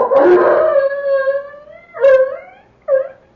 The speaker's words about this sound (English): The dog barking. He'll get the rest of them going.